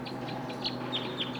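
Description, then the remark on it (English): Wild birds give a series of short, high-pitched calls, about five in quick irregular succession, over a steady low hum with no voices. “The wild birds are calling loud now.”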